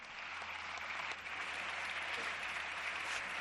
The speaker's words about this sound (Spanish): Son los aplausos del Grupo Popular.